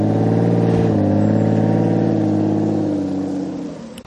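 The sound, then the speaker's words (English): A Vanquish car's 6-litre V12 engine revs loudly and steadily, its deep multi-layered harmonics rising and holding for several seconds before easing off at the end. “It had the power, 6-litre V12.”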